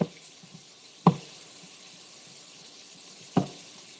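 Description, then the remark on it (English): Dishes being scrubbed with a fish-shaped sponge at a sink: two dull clunks of crockery, about two seconds apart, over a soft, steady watery hiss. No one speaks. “I have a sponge that's shaped like a fish as I scrub away at my dishes.”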